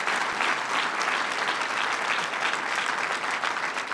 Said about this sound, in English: First of all, you've got one of the finest governors in the country who also is doing a great job as DNC chair. Please give Tim Kaine a big round of applause.